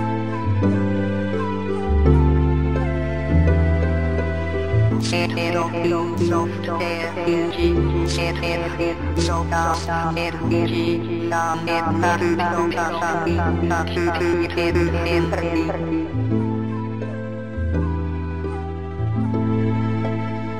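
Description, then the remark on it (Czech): A retro electronic melody of buzzy, stepped synthesized tones from the voice output of an old Eureka computer plays continuously, with a bass line shifting note by note and a busier, brighter passage in the middle. Fairly loud, with no voices. “Jak se poslouchají tyhle tóny po těch letech dlouhých, kdy už tady s náma nejsou tyhle hlasové výstupy, nebo ty je pořád ještě nějak udržuješ?”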